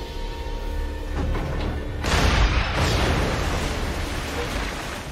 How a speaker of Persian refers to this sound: نشانه گیری 81652 با اسلحه. از مبدا 10 متر به جلو یک بار شلیک.